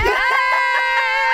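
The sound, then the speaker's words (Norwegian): A woman lets out a loud, sustained high-pitched scream lasting over a second, piercing, with a wavering, strained tone and no talking around it, as she reacts to a marriage proposal. “Da skrek jeg veldig høyt. Jeg tror vi må redigere det ut etterpå.”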